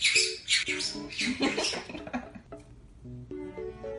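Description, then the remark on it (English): A pet bird screams by itself from the top of its tower in a run of harsh, raspy screeches, followed by shorter, more tonal squawks and calls, loud and with no talking. “You're just screaming by yourself on the top of the tower.”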